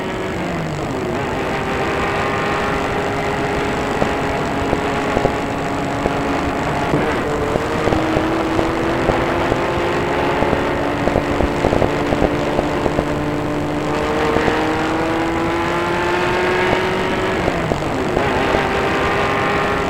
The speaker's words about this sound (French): Il retourne vers la voiture. Il fait asseoir dans le siège arrière. Et la voiture part.